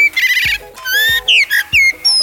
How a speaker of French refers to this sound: C'est le merle, et c'est aussi très musical.